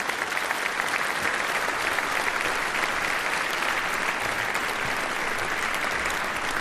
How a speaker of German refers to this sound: Und die drei werden uns jetzt erzählen, was man mit CRISPR alles machen kann. Und gebt ihnen nochmal einen richtig, richtig tollen Applaus. Und dann sind wir gespannt.